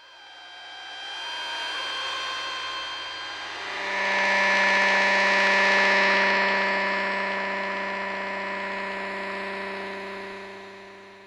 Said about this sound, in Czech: Mohli byste slyšet například rušení monitoru?